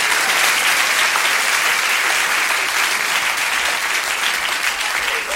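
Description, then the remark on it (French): Loud, sustained applause from a large audience as a young woman is called forward as number 728, a dense wash of clapping that fills the whole stretch without a break, with faint crowd noise mixed in. “Mademoiselle, on vous applaudit très fort, approchez-vous.”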